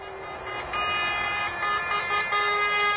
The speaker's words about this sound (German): Hubkonzert auf der Autobahn Richtung Norden. Ein Konvoi polnischer Feuerwehrfahrzeuge wird von Schweden herzlich und lautstark begrüßt.